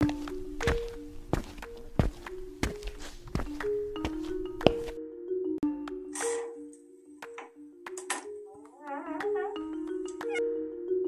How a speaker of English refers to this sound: Okay, I'm walking.